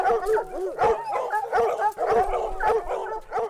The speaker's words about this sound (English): A horn blares out in the early morning, and more than 20 black and brown spotted hounds bellow in response.